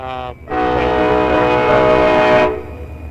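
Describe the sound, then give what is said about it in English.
A loud, sustained train horn blares for about two seconds over the low rumble of a passing train, preceded by a brief shorter horn note at the start. “look, it sounds like the train's coming by.”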